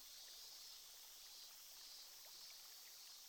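A steady fizz of a carbonated drink, a dense hiss with tiny crackling pops spread evenly throughout, quiet and continuous with no voices.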